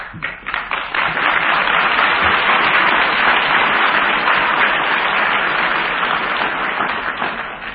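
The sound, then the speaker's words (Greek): Sustained applause from an audience, a dense, steady crackle of many hands clapping loudly for several seconds, with individual claps audible at the start and the sound easing slightly toward the end. “Ότα χειροκροτήματά σας, ότα χειροκροτήματά σας με ενθουσιάζουν εμένα τον καινόδοξο και περήφανο άνθρωπο.”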